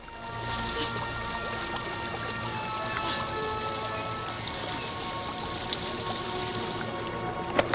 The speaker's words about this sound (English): He has fallen into a pool of water. Water trickles down the mossy sides of the tree.